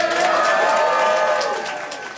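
A crowd claps and cheers, a dense wash of applause mixed with sustained whooping voices, holding steady before gradually tapering off at the end.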